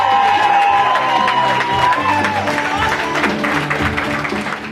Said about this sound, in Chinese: 这个欢呼胜利的场景是在庆祝安纳斯塔西亚·帕拉什伊再次连任昆士兰州州长。